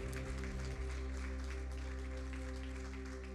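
Steady audience applause for the pastor at a church service, a dense crackle of many clapping hands, runs for a few seconds over a sustained low musical drone, with no one speaking.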